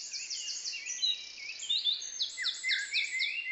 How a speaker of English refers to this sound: In a children's hospital in Liverpool, England, the sweet sounds of birdsong carry along the hallways. It's a recording of the dawn chorus from a nearby park, and the intent is to calm the anxious young patients.